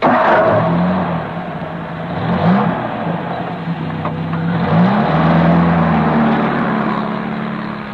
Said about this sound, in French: Le camion repart et franchit sans ralentir la porte du camp.